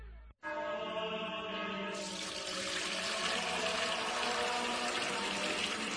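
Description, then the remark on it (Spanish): Water pours steadily into a container for several seconds, a continuous gurgling stream whose pitch slowly rises as the vessel fills. No voices. “es que no nos quedaba agua bendita. Agua pura de manantial Fuente Umbría.”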